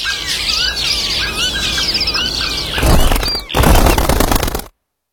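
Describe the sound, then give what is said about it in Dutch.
A dense flock of small birds chirps and twitters busily for a few seconds, then a loud burst of flapping wings takes over as they fly off, ending abruptly in silence. “Help Vogelbescherming Nederland en zorg dat de vogels niet stilvallen.”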